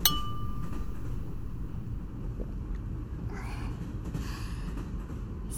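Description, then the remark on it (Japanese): A single bright clink of glasses touching in a toast over alcoholic drinks to a trip, its ring fading over about a second, set against a steady low rumble of background noise with no talking. “では今回の素敵な旅に乾杯。”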